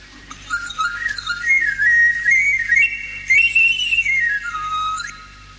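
A milk and cheese vendor's fife, played in the street to call customers, plays a wavering, high-pitched melody that rises and falls across several sustained notes, loud and unaccompanied, over a low steady hum of street noise.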